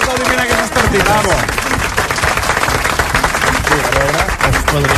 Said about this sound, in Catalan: Un aplaudiment, bravo.